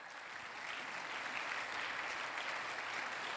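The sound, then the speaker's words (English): A crowd stands and claps steadily for the Irvine police chief and fire chief. Many hands applaud in a dense, even wash at a fairly constant loudness for the full few seconds, with no voices standing out. “Can you give them a round of applause as leaders?”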